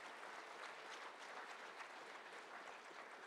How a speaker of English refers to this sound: If you believe that, give the Lord a big round of applause in this place.